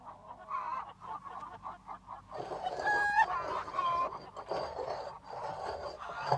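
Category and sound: bird, bird calling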